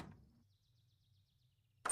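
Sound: door being closed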